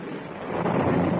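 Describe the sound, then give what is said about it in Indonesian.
A strong wind roars steadily at Gugula Hill in the late afternoon as thick clouds roll across the sky, a dense rushing noise that swells slightly louder toward the end, with no voices over it, like gusts building ahead of a storm. “Mendadak mendung bergulung-gulung di angkasa raya. Angin bertiup kencang.”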